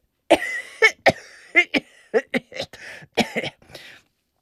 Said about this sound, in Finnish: ja yskiä pitää niin, että laittaa käden suun eteen. Näin.